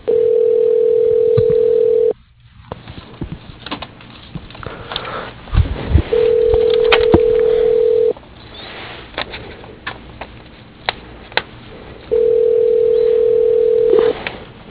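A telephone line rings after an extension is dialed on an aluminum extrusion manufacturer's phone system: three long, steady ringback tones, each about two seconds, spaced several seconds apart, with faint line hiss and clicks between them.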